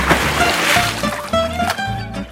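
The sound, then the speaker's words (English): Water splashes and sloshes in a steady, churning wash in a natural swimming pool in a forest, with faint tonal notes threading through the background. “Where you can cool down in one of nature's swimming pools.”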